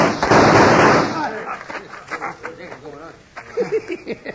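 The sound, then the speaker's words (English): A loud, dense burst of gunshots crackles for under a second, then gives way to scattered, quieter sounds and agitated voices. “Shoot him, you fool!”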